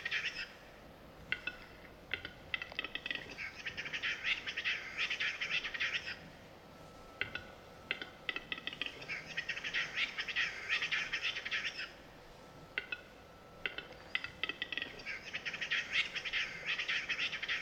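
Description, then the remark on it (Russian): Capercaillies bathing in white snow call in three long bursts of dense, rapid chattering and clicking, each lasting several seconds with short lulls between, steady in loudness, with no voices. “А вот посмотри, купаются в белом снегу глухари.”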